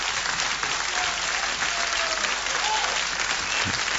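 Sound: applause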